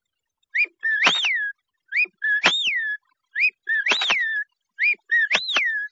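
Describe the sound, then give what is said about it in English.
Someone whistles an imitation of the English whippoorwill's song: four evenly spaced phrases, each a short note followed by a swooping rise-and-fall whistle, clear over faint crackle, with no talking. “… by …, Edison Records. ….”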